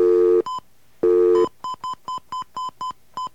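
telephone touch-tone dialing

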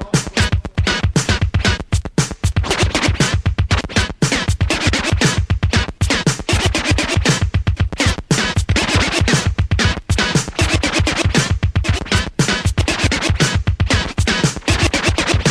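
turntable record scratching

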